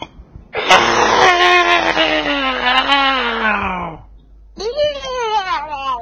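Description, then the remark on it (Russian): A distant wyvern's cry, heard as sleds begin to speed up: a loud, drawn-out screeching wail that slowly falls in pitch, then after a brief pause a second, shorter shriek begins. “Санки только было начали разгоняться, услышали далекий крик виверны.”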